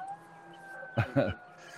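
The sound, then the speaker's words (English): Faint, steady siren tones of an emergency vehicle drone throughout, while a voice briefly speaks over them partway through. “You hear the sirens back there?”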